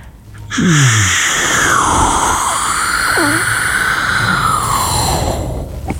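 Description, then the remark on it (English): A voice imitates an aeroplane with a sustained whooshing, droning hum that swoops up and down in pitch for several seconds, starting with a breathy rush and fading at the end. “can you please give me your best sound effect for an aeroplane right now?”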